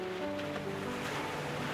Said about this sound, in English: Hear the sounds of the waves, the rhythm of the ocean. Connect with it and become one.